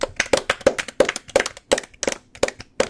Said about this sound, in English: Well, there you have it. Let's give a nice round of applause